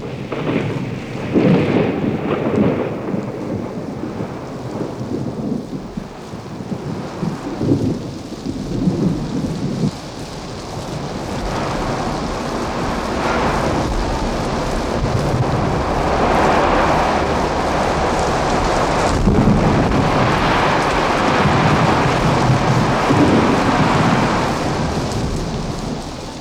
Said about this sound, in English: And with that came the first big, fat drops of water that always seemed to warn of the approach of a cloudburst. And all of a sudden, the storm broke directly over us.